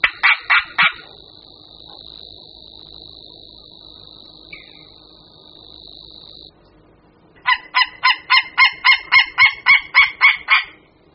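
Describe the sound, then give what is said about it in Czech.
White-tailed eagle calls: a quick burst of yelping notes, then a steady high tone, then a loud, rhythmic run of about a dozen sharp, goose-like yelps, clear and without talk. “Orel mořský je nápadný i běžnému pozorovateli, když navštíví například jihočeskou rybniční pánev anebo velká jezera na jižní Moravě.”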